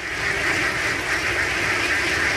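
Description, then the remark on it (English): A large flock of about 100,000 ducks, used to eat locusts, quacking all at once, a dense, continuous wall of overlapping calls that stays loud throughout, with no pauses and no voices. “Ducks, 100,000 of them.”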